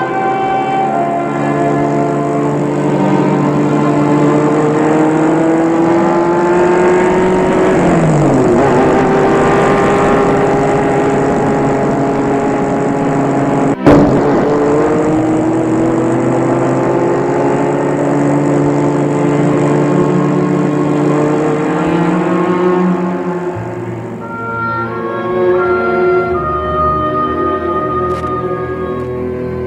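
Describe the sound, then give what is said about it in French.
A loud, steady car engine drone that shifts in pitch as it revs up and down while Adrien takes the car and speeds off, then drops away near the end, leaving a quieter rumble. No one speaks. “Une fois qu'Adrien a pris la voiture et filé, le chauffeur a téléphoné à Albert pour lui dire « C'est fait, monsieur.”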